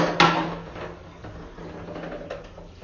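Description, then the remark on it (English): Bath water draining away: a sharp clunk at the start, then a steady rushing, gurgling wash over a low hum, with a few soft knocks and no voices. “Let's empty that bath water then.”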